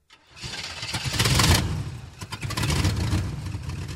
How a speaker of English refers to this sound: The truck left, carrying the man with the fedora.